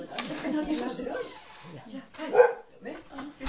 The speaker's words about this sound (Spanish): Oye, ven, anda a ladrar afuera. Anda a ladrar afuera.